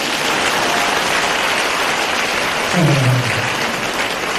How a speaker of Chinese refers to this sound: 鼓掌啊。